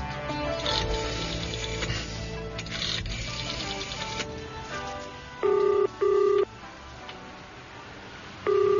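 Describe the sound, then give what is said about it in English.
A telephone number is dialed: a few short, loud electronic tone beeps in quick succession, set against a busy, clattering mechanical background, with no one speaking. “Phone a certain number, it says, or else.”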